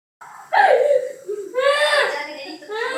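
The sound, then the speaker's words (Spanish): A boy of about six cries inconsolably in a viral video from Argentina after Messi's resignation. Loud wailing sobs come with broken, quivering breaths between bursts, continuous for the whole stretch. “Se trata de un chico de unos 6 años llorando desconsoladamente.”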